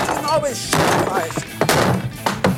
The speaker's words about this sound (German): Und deswegen mache ich jetzt hier diesen Tisch mal kaputt, ja?